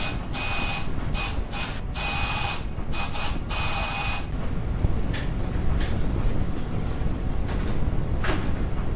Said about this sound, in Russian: О, тихо, кто-то звонит в дверь. Тихо, тихо, тихо.